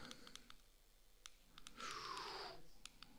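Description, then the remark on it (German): Several sharp mouse or keyboard clicks, spaced irregularly, as someone clicks through presentation slides; a brief hissing swoosh rises in the middle. Fairly quiet, with no talking. “Dann klicken wir uns schnell durch.”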